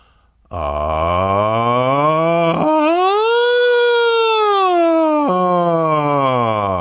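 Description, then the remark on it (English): A singer holds a single sustained tone that starts low and full in chest voice, abruptly cracks upward into a thin, high falsetto, skipping the middle or head voice, holds it for a few seconds, then snaps back down to chest. “This time, I'll go from chest to falsetto, skipping the middle or head voice, and then back to the chest.”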